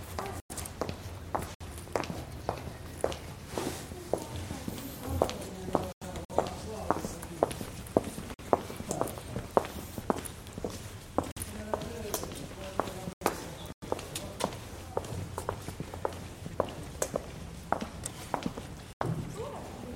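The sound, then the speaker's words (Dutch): Steady footsteps tap along at a walking pace through a very quiet tangle of squares, alleys and lanes, with a murmur of voices around the corner. “Zo stil dat ik allemaal geluiden uit hoor vanuit de huizen. Stemmen om de hoek. Voetstappen.”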